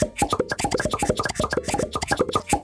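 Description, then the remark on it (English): Popcorn popping in a rapid, irregular stream of sharp little pops, many overlapping, bursting steadily throughout with no voices. “Oh, you know what that sound means. The popcorn quiz is ready!”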